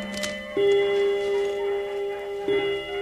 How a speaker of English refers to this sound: Oh, I love that old clock of mine. Old bone white clock with the gold angels round the face.